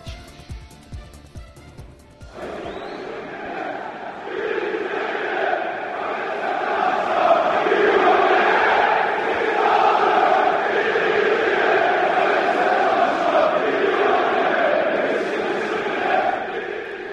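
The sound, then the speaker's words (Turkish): A large crowd fills the stands of Beşiktaş's Vodafone Arena, formerly İnönü Stadium, at the weekend, chanting in unison: a loud, sustained roar of many voices with rising and falling melodic phrases, following a brief burst of clicking noise at the start. “Evet, tribünler bu tezahüratla inledi hafta sonunda.”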